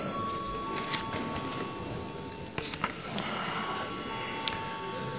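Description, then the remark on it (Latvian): A parliament chamber bell rings before the vote on the micro-enterprise tax bill in its second, final reading: a steady, high electronic tone through the whole stretch, with scattered clicks and soft background murmur and shuffling beneath it. “Paldies, lūdzu zvanu.”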